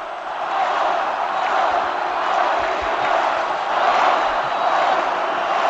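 A large stadium crowd at El Molinón chants "Quini, ahora" in remembrance of Enrique Castro Quini during the derby against Real Oviedo, a dense, steady roar of many voices sustained at an even, loud level for about six seconds, with no single speaker standing out.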